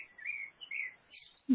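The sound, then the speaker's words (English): Birdsong, a few thin, high chirps and warbling phrases, faint, heard through a window during a call, followed by a brief low thump at the end. “Okay, I can hear the birds singing.”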